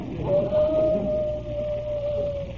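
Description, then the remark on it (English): A single long, wolf-like howl holds one steady pitch for about two seconds, fairly loud and close, over a low rumbling background. “My wife's calling me. It sounds like a wolf.”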